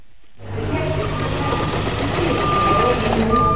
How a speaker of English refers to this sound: uses a sewing machine against the backdrop of construction noise on the Salish and Kootenai College in Pablo to make a kickball.